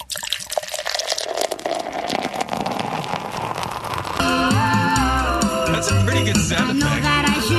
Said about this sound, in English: You can hear the foam. That's a foamy pour. That's a crappy it's pour. It's a really foamy pour.